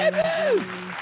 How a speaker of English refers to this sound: You know, you guys don't have to play the applause for me, right? Remember, we forgot 1 week, and We actually need to add something to that, like some screaming fans or something like that, and some cameras flashing sounds.